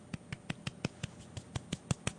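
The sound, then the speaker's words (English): A soft golf clap: about eleven light, quiet hand claps at a quick, steady, even rhythm, with no voices. “But I want to give a little golf clap.”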